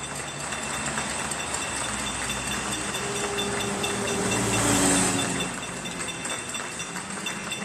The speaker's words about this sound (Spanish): las 8 de la tarde, la hora del aplauso de los españoles, de los madrileños, a sus sanitarios y a todos los que nos ayudan a salir adelante estos días complicados. Así suena ese aplauso desde Santa María de la Cabeza,